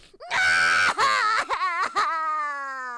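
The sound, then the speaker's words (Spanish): A loud voice of Dino, a toy dinosaur character, screams and cries in long, wavering wails, broken by a few short gasps, before trailing off into one drawn-out sobbing cry that slowly fades. “De nada sirvieron los gritos y lloros de Dino.”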